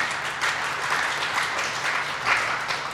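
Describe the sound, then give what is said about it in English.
A crowd claps steadily for a few seconds in thanks for the work on the SACS report, a dense, sustained wash of applause from many hands at moderate loudness, with no voices rising above it. “So let's give everybody a round of applause for the SACS report.”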